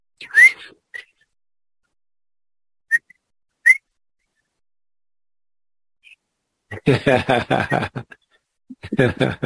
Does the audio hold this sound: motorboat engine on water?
no